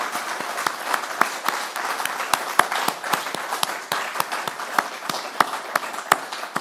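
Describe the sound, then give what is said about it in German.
A church service audience applauds steadily and warmly for the moderators, coffee makers and others who make the weekly service possible, many hands clapping in a dense wash with sharper individual claps popping out irregularly. The clapping stays even in loudness throughout, with no voices. “lasst uns doch mal diesen Menschen, die uns das jede Woche hier ermöglichen, einen dicken, warmen Applaus geben.”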